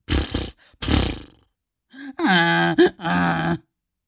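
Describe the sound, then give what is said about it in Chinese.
A donkey raises its face and blows through its nose, making a string of fart-like sounds: two loud, breathy snorting blasts come close together, then after a short pause a string of raspy, rumbling bray-like bursts, each held briefly, with no talking. “这次驴竟然撂起蹶子，然后扬起驴脸对着风用鼻子，驴像放屁一样的发出一连串的声音。”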